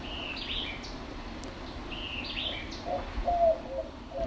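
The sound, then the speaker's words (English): Two quick, sharp phrases of a white-eyed vireo's song ring out in the background, followed near the end by a soft, low white-winged dove coo against a faint outdoor hush. “So the cooing again is the white-winged dove, and then that chick-a-rear-deer-deer-chick in the background is the white-eyed vireo.”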